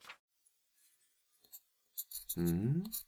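writing on paper

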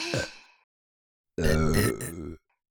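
burp

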